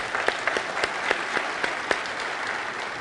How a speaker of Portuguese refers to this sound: Aplauda